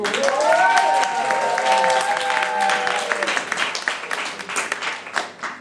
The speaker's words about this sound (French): Mesdames et messieurs, on peut l'applaudir.